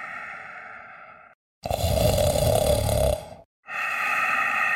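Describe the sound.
Loud, rasping snores repeat in three long breaths separated by short pauses, the middle one the harshest and most rumbling, with no talking.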